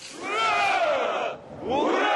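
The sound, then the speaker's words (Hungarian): The sailors of the Russian missile cruiser Moskva shout a loud, drawn-out hurrah in unison as the ship departs, then after a brief pause raise a second rising cheer of massed male voices. “A Moszkva nevű rakéta cirkáló matrózai hangos hurrával üdvözlik a hajó indulását.”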